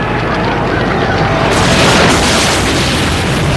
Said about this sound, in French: Une énorme explosion. Derrière eux.